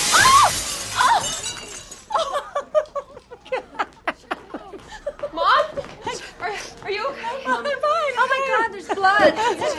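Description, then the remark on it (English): A loud crash of shattering glass as a woman falls through a glass table in a TV series scene, with bright debris tinkling for about two seconds, then several people chatter and laugh excitedly afterward. “There was a scene in the first season where my mother, played by Dana Wheeler, falls through a glass table.”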